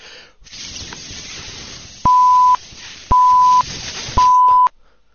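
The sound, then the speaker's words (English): Three loud, steady electronic beeps from a breath test device, each about half a second long, sounding at an even pace over a soft background hiss. “What's with all the beeping?”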